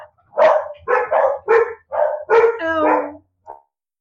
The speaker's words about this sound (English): And my dogs decide to bark, of course, when I'm in the middle of doing this.